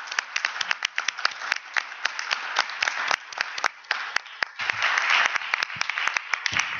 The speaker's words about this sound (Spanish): Propongo que nos demos un aplauso mutuo para las 3 mesas.